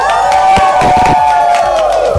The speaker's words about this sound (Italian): Ci abbiamo sotto gli studi di Radio Dinamo il pubblico che grida, tutti i fan.